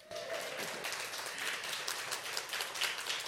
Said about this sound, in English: Come on, give my wife a hand clap.